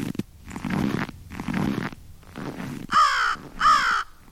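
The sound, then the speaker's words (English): A crow caws repeatedly in a steady rhythm, harsh raspy calls, with the last two ringing out sharper and louder than the rest. “A crow will walk, some might say swagger, across a snowy parking lot, leaving right and left steps much as a walking human would.”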